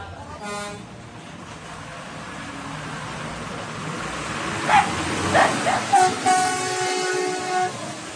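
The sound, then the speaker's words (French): A Labrador barks in a short burst of four or five loud barks, over a steady outdoor rumble with a train horn tooting at the start and end. “Comment il s'appelle le chien, alors?”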